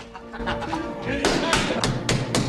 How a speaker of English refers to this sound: bangs on the bar.